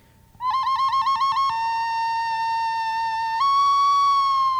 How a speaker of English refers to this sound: And it was the same. She heard that bird.